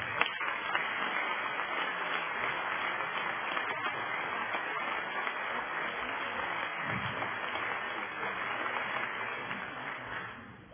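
An audience applauds the composer of a march in a dense, steady wash of clapping that holds an even level for about ten seconds before tapering off at the end. No one speaks over it.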